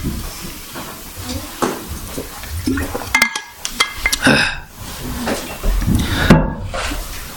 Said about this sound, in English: I'll drink some water, then we'll carry on.